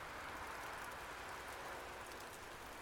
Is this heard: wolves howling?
no